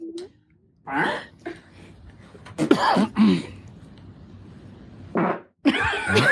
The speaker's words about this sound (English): You could ask, guess the fart.